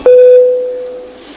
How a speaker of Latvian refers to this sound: Tādā gadījumā lūdzu zvanu. Balsosim par 118. deputāta Augusta Brīgmaņa iesniegto priekšlikumu.